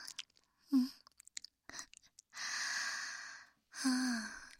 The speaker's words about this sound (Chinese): 那嘴巴张开啊，我嚼碎了喂你吃。